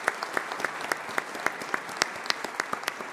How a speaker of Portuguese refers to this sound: O cerimonial gostaria de agradecer e solicitar uma salva de palmas às guardas civis municipais pela breve entronização do hino.